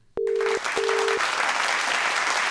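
A steady wash of loud crowd applause bursts in suddenly, opening with two short electronic beeps at a fixed mid pitch, then continuing as dense clapping with no talking.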